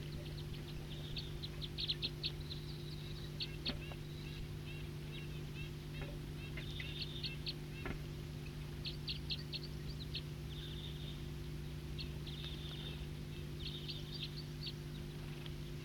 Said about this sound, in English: So recording some wild birds here.